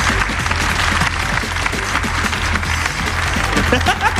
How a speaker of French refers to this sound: Voilà, il la donne. Oh, il est sport. On peut l'applaudir, il est sport, il donne sa veste. Bravo.